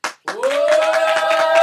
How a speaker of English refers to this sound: Once Mr. Chameleon was done, the theater started buzzing again, but this time it buzzed with loud clapping and whistling.